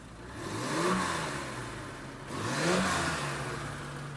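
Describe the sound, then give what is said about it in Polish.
A car engine without a catalytic converter revs up twice in quick succession, each rise swelling to a loud, raspy roar before dropping back to a rough idle, with no voices. “Nie jest napisane z tyłu, że posiada katalizator? Nie posiada. Nie posiada. I to słychać, widać i czuć.”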